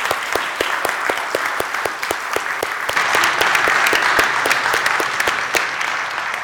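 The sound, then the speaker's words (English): A crowd claps steadily in a dense round of applause to thank singers and musicians after a show, many hands overlapping into a broad, crackling wash that swells slightly midway and holds for several seconds without any talking. “But let's thank them now just with a round of applause.”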